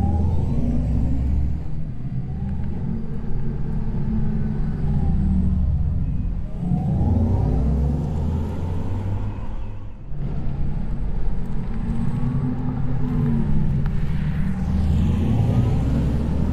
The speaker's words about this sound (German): Das war der Sound unseres e-tron GTs, unser letztes Elektroauto, was wir auf den Markt gebracht haben.